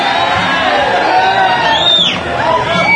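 A large crowd, everyone already standing, roars steadily and loudly, with a dense wash of overlapping voices, cheers and a rising-then-falling whistle or whoop cutting through near the middle.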